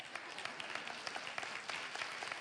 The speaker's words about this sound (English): That is, okay, that's a lame clap.